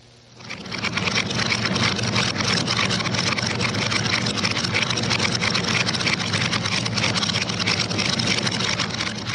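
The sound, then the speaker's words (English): A Ford stock car engine warms up for a demonstration pass at Riverside International Raceway, along with several other racing cars, swelling in within the first second into a loud, steady, gritty roar with a low throb that holds unchanged throughout. No one speaks. “In the background, you can hear my Ford stock car warming up for a demonstration pass, along with several other racing cars, including an Indy Ford Lotus, several assorted Cobras, and a Grand Prix car.”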